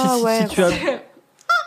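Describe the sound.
A voice speaks for about a second, then after a short pause a rubber chicken toy lets out one loud, sudden, high-pitched squeak when squeezed.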